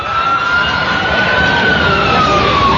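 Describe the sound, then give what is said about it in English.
A siren wails steadily in the background during a football game, a single drawn-out tone slowly falling in pitch over a dense wash of traffic-like rumble, with no one speaking. “So it'll be third down as sirens in the background.”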